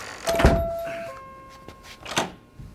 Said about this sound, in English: Now hurry up and lock the door.